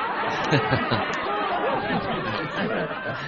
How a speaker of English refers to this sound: Yeah, that's our crowd, man. We got a crowd now.